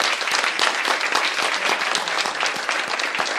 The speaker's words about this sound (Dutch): En alle mensen, een applaus voor al die kinderen die echt allemaal ook zo goed hebben meegedaan.